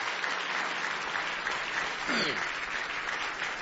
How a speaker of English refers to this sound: Somebody say, praise the Lord. Give the Lord a real good hand clap of praise tonight.